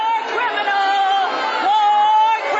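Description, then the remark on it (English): Protesters on the sideline of a Fourth of July event shout loudly and continuously over Bush's opening remarks, blending into a dense, unbroken crowd clamor that holds steady for a couple of seconds. “As soon as his opening remarks started, they started shouting over him.”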